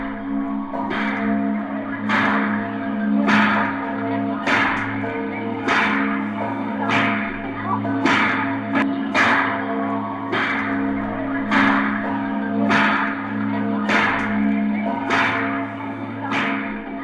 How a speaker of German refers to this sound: Und während der Wandlung erklingt auch die große Osanna-Glocke. Und so beschleicht einen ein seltsam, mystisch-blasphemisches Gefühl, wenn Glocke und Karpatsche gegeneinander in akustischen Wettstreit treten.